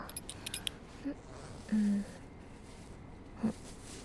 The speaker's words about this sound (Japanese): ベルトを外してチャックを開けるくらいにしてあげるから。